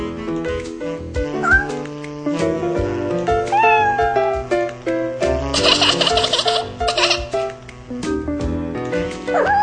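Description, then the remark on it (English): A kitten, Gilbert, meows several times in short, high-pitched, playful cries while playing with a shoelace waved on the floor, fairly loud, with a busy burst of rustling noise partway through and other tonal sounds underneath. “I've never met a kitten that could resist a shoelace.”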